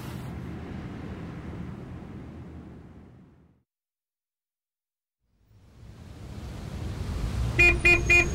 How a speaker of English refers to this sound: Hey, is that the bus coming? I can't see. I don't know. It's too foggy.